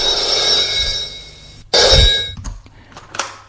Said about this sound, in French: Le téléphone sonne.